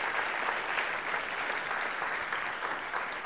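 Steady applause from a crowd giving a round of applause to God during a sermon, a dense, continuous patter of many hands clapping at an even level for a few seconds, with no voices standing out above it.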